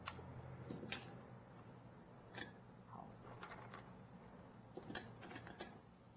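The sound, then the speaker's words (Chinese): Ice cubes are dropped into a glass after sugar syrup while making iced coffee, making a scattered series of sharp clinks and taps in small bursts against a quiet background hum. “所以是先加糖水，跟刚刚卡布奇诺一样。 是，然后再来 冰块。”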